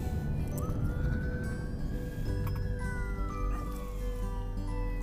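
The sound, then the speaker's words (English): A police car siren wails as the car passes, its pitch rising and then sliding down over a steady rumble of traffic, fairly loud with no talking. “And so, let this police car go by.”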